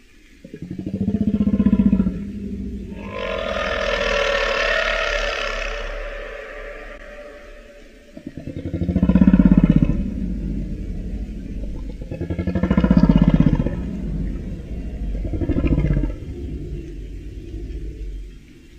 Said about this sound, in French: D'ailleurs, je te propose d'écouter dès maintenant une baleine à bosse qui chante. Tu vas voir, c'est différent de la précédente baleine qu'on a entendue.